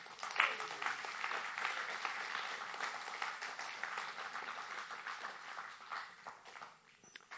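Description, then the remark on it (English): A crowd claps steadily for several seconds, giving students a round of applause, a dense, even patter of many hands, tapering off toward the end. “How about give the students another round of applause?”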